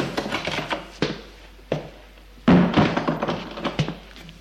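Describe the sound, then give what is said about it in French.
A door being opened: a few sharp wooden thunks and clicks spaced a second or so apart, with soft rattling and rustling in between and no voices. “Lorsqu'il entend ouvrir la porte, il va vers lui.”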